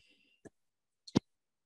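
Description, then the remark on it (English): A few isolated computer keyboard key clicks, fairly sharp, as someone types the words "banks and funders": one single tap, then a quick pair about half a second later, with quiet between them and no voices. “How about I'm just typing banks and funders as a decision point.”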